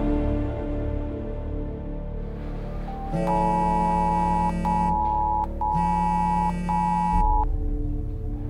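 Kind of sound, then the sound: signal or alarm, phone emergency alert tone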